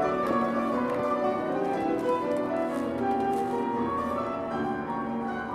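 Piano music plays steadily in the background at a moderate level, with sustained notes and rich harmonies blending together; no one speaks.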